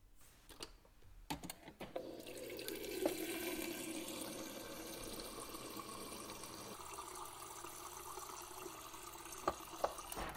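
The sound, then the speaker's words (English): A few light clicks and clinks, then a steady stream of tap water pours into a glass, its tone rising slightly as it fills. Quiet, with no voices. “Oh, I just wanted to take a glass of water.”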